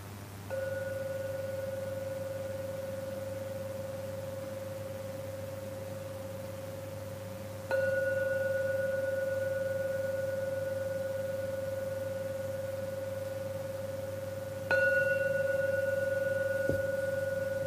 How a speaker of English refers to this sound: Now we're going to ring the gong 3 times to end the meditation. Please wait for the 3rd gong and then open your eyes.